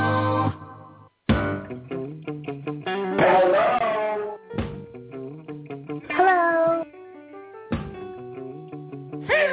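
A cat meows several times in a row, loud, each call a drawn-out, wavering cry with a harsh, electronically distorted edge, separated by short pauses.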